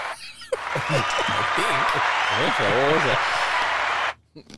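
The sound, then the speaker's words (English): A steady burst of audience applause lasting a few seconds, mixed with excited whoops and cheering voices, then cutting off abruptly into near silence. “You got some applause, I think.”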